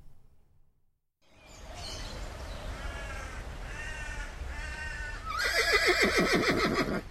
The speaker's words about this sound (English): I'll make sure that horse is under control.